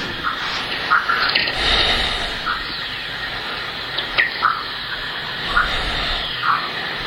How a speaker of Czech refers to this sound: Jo, či i takhle může znít magnetosféra, takovýhle štěbetání. A jsou to taky R-vlny, jo, jenom jsou to příbuzný těch R-vln.